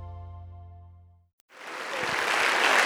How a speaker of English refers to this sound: Hallelujah. Well, come on, can we give Jesus a big hand clap of praise today? Well, come on, I'm at the Rock. You could do better than that.